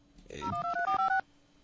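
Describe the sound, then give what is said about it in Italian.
A quick run of telephone keypad dialing tones as a call is placed, about six short beeps in steady rhythm lasting under a second, with no one speaking. “Prova a chiamare satrapofi.”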